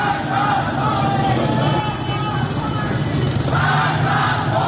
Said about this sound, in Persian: در شهرهای رشت، عراق و زاهدان هم معترضان شعارهایی از قبیل مرگ بر خامنه‌ای و آزادی آزادی سر دادند.